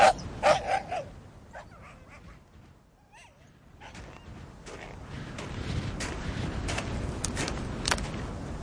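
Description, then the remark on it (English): Dogs, disturbed by a man passing by, bark in sharp, repeated bursts, loudest at the start, then settle into a steady run of scattered barks over a low rumbling background. “Lord, I've worried the dogs again.”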